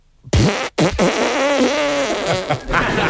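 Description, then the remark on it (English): A voice imitates a chainsaw being pull-started while the performer mimes bending over and ripping an arm back: a short rasping burst, a brief break, then a longer buzzy, lip-flapping sputter that wavers in pitch and stays loud for about two seconds. “Mine's a bit visual, but you'll you bend over like you're about to start a chainsaw, and as you rip your arm back...”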